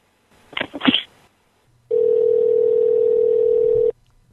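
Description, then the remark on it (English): A phone call being placed: a brief clatter of handling noises, then a steady, loud, low-pitched phone tone holds for about two seconds before cutting off. No one speaks. “I'll be calling the police right now and we'll straighten this right out.”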